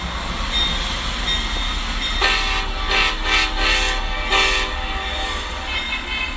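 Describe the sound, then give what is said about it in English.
A train engine horn at a railroad crossing sounds in several sustained, chord-like blasts over a steady low rumble of a passing train, loud, with no voices. “She tells us, "My son is a rail fan, so I take him to railroad crossings all over the country where he can film rare or unusual engines, sometimes with special horns, and post them to his YouTube channel for”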